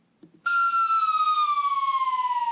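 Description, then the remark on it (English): A siren sound effect blares in abruptly and holds as a loud, steady wail, its pitch sliding slowly downward over a couple of seconds, with no talking. “My brain was wiped by a siren.”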